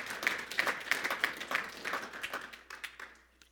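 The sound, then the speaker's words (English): A church audience claps together as a clap offering to the Lord, in dense, rapid applause with sharp bright accents, holding steady for a few seconds before thinning out into scattered claps and fading away. “Give the Lord a better clap offering than that.”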